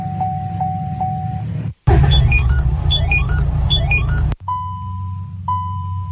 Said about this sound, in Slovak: Takto, niektoré autá a možno aj to vaše signalizuje, že potrebuje dotankovať.